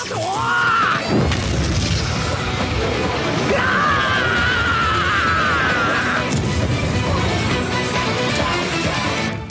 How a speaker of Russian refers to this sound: Думаю, я смогу устроить взрыв, от которого ты не успеешь скрыться, разделившись.